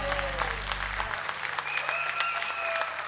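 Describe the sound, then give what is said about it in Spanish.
An audience breaks into steady applause after a song, dense clapping from many hands filling the space, with a low hum fading out early and a few faint whistles or tones over the clapping. “¡Aplauso, claro!”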